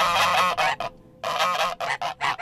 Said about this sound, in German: Bei Michel Moschella-Burger aber empfangen mich zwei aufgeregt schnatternde, flügelschlagende Gänse.